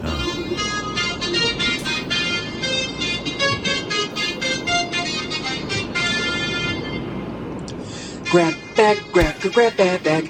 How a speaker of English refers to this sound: You know, I like how he's like in the car with the AC on. Like, what does that sound? It's like, it's a hot day.